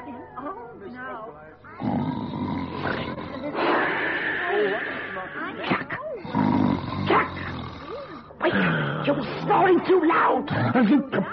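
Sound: loud snoring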